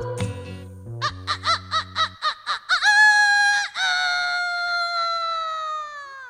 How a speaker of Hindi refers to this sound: मुर्गा बोला कुकड़ू कू, मुर्गा बोला कुकड़ू कू।